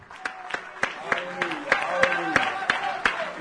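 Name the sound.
audience clapping hands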